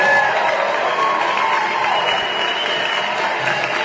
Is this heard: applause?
yes